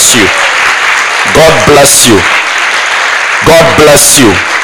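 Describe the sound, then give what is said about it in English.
A large crowd claps steadily and continuously, applauding again to honor the men and women who serve, while scattered voices call out and cheer over it in short bursts. “Let's clap them again.”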